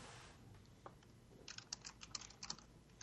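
Quick, irregular keyboard clicks tap away at a moderate distance, a cluster of sharp keystrokes over a soft background hiss with no one speaking.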